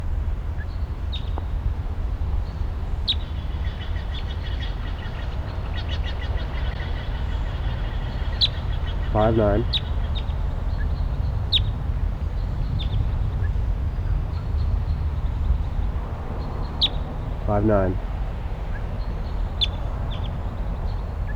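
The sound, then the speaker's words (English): Sharp, high kip notes from wild red crossbills, including a red male, sound at scattered intervals over a steady low rumble, with two brief harsher chattering bursts partway through. No one speaks. “The wild crossbill is here.”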